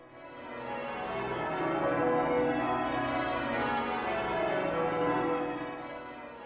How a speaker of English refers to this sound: Hearing the Christmas bells over half a century later, Robert Bridges was moved to write Noël, Christmas Eve, 1913.